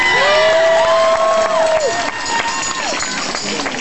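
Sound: audience applause and cheering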